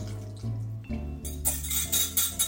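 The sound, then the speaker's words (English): Re-whisked marinade is poured over tempeh in a baking dish, splashing steadily for about a second, fairly loud, over a low humming background that fills the quieter opening. “Now we're going to bake it, but first I'm just going to re-whisk the marinade so that it's all combined, and then just pour it over the tempeh.”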